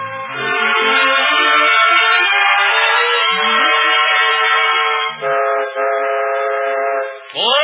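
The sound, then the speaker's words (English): A loud, sustained train horn blares with steady harmonic tones, briefly dipping twice before rising at the end, backed by a low rumbling locomotive. “So, this first peacetime Christmas Eve, the Cavalcade of America takes you on an imaginary train ride, swooping all over the country, seeking out the names of places which stand for home in such a special way tonight.”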